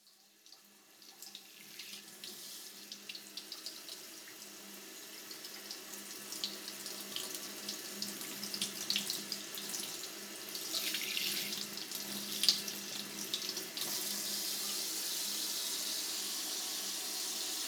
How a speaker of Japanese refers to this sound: ではシャワーでお耳を洗い流していきます。では右のお耳から。